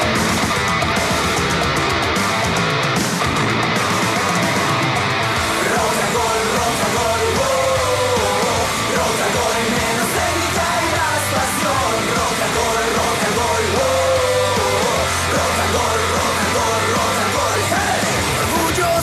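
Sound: crowd shouting and yelling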